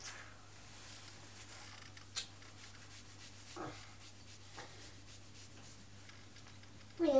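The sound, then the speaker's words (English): Quiet rustling and rubbing of packaging as a parcel is handled and opened, with a few brief scrapes along the way and a louder crinkling burst at the end. “Shall we just open that parcel and look in that?”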